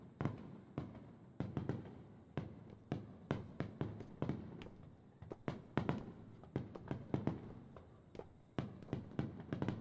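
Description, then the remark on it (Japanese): Quick, heavy footsteps hurry up a flight of stairs to reach the top before the fireworks end, a steady run of thuds with slight irregular spacing and no voices. “私のために急いで登ってきてくれたんですか？”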